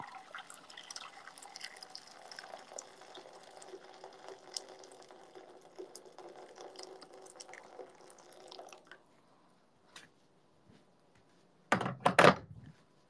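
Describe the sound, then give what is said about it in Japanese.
Freshly boiled water pours steadily into a frying pan to make Sapporo Ichiban salt ramen, a bubbling, splashing rush for several seconds, then stops; after a short quiet pause and a faint tap, a loud metallic clunk follows. “フライパンでいいかな。お湯を注いで。”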